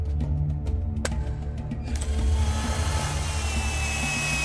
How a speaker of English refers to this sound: Instead, I want to do a little thing I call drilling a hole in my head. Now, according to my research, there's a narrow angle where one can drill.